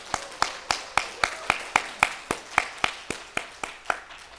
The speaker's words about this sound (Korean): 다시 한번 박수하겠습니다.